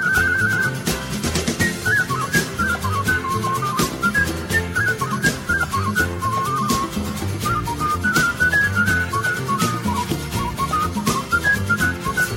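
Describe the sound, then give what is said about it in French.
A man whistles a bright, lilting melody, clear, running continuously over a full instrumental backing with steady rhythm and no voices. “ne chante pas, il siffle.”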